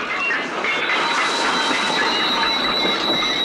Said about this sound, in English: The train suddenly jerks to a slower speed. The young woman loses her balance and falls as a stew sloshes over the top of the stove.